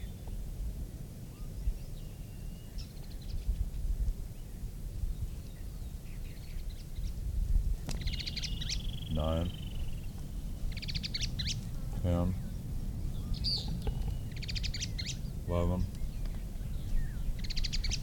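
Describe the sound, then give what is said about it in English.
A bird sings in short phrases mixed with high chattering notes, including three buzzy, rasping calls spaced a few seconds apart, over a steady low background rumble. “At least the bird that is singing last.”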